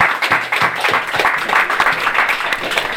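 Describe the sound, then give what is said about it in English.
A crowd applauds steadily at an event for a community building that serves the ambulance service and medical examiners, many hands clapping in a dense, continuous patter that stays loud throughout, with no voices rising above it. “So just a quick round of applause for all the guys.”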